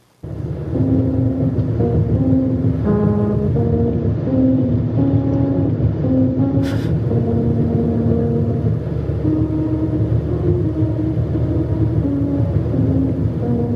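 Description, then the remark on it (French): A traditional Frisian melody rings out as a series of hummed, tonal notes produced by tires rolling over the grooved pavement of a musical road, heard from inside a car holding 60 km/h, over a constant loud road rumble. “Et si vous tenez précisément la vitesse prescrite de 60 km/h, vous ferez retentir sous vos roues une mélodie traditionnelle de la frise et cela donne ceci.”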